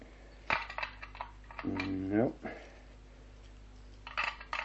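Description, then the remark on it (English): Keys jingle and scrape against the lock of a barred door to a shuttered room in several short metallic bursts as different keys are tried, with a brief strained vocal hum partway through and quiet pauses between attempts. “No, these are the only keys”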